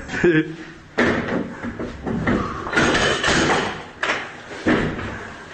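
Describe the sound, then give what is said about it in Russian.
Russian soldiers force open a civilian apartment door in occupied Selydove with a series of heavy thuds and slams, several impacts landing about a second apart amid clattering. Someone is audible in the background. “Хату вскрыли, сейчас вторая вскрывается.”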